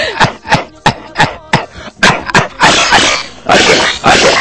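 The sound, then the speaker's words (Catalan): A loud coughing fit from a female presenter: a rapid string of sharp, harsh coughs that build into longer, rasping, continuous hacking with no speech. “Tenim una presentadora que se'ns morirà de tos. Li agafa la tos ara.”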